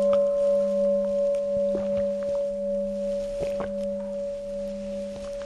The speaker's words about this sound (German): Ja, dann hören wir mal kurz eine Glocke und dann geht's ins Eingemachte.